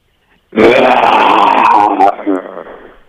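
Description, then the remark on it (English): A person imitates a lion's roar in a radio lion-off contest for a pass to the Taronga Western Plains Zoo, with one loud, rough, growling bellow lasting about a second and a half, trailing off into a lower rumbling growl. “give us your best lion.”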